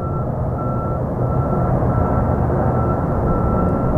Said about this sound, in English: The sounds of copper mining have been ringing off the slopes of Arizona's mountains for over 100 years. Actually, the process started out a little quieter.